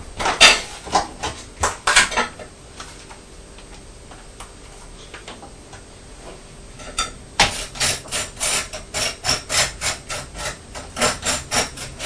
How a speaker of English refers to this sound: This toast sounds crunchy, doesn't it? It's the piece of toast that got stuck in the toaster.